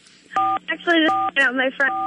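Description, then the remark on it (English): Telephone keypad buttons are pressed in a quick series of about five loud, steady beeps, each a short burst separated by brief gaps, with a voice faintly mixed in underneath. “Who's pressing the buttons?”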